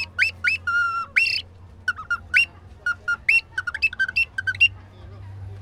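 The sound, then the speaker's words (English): A bird-call whistle imitating a bird of the Mossman Gorge and Daintree rainforest: bright, chirpy whistled notes in quick, uneven bursts, fairly loud, with a low steady hum underneath and no talking. “And you have beautiful Mossman Gorge and and the Dane Tree, so we've got a little rainforest whistle too.”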